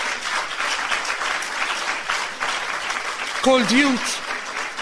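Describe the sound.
A crowd claps steadily for several seconds, a dense, continuous patter of many hands, with a brief voice calling out over it near the end.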